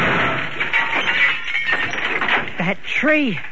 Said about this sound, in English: I fell to the ground behind a tree, and the car smashed into it.